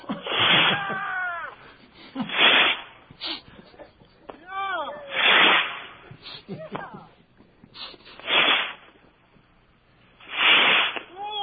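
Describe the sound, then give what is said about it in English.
A series of about five sharp hissing whooshes as bottle rockets are lit and launched one after another for New Year, spaced a couple of seconds apart, with fainter warbling whistles drifting between them. “All right, we're about to light some bottle rockets now.”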